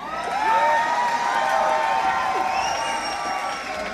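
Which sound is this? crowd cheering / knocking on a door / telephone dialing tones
crowd cheering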